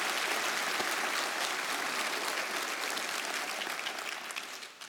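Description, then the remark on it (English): An audience applauds steadily in support of a woman who is healing, dense clapping filling the whole span at a fairly even loudness before easing slightly toward the end. No voices stand out. “Can you just give her a round of applause to tell her you're praying for her and you love her?”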